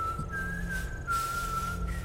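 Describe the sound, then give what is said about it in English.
A strange, steady whistle holds one high pitch with slight wavers, wrapped in a breathy hiss like the steam of geysers, sounding alive but not quite organic, continuous at moderate volume for about two seconds with no voices. “I heard them talking about kidnapping another earthling when I heard a whistle that I had never heard before.”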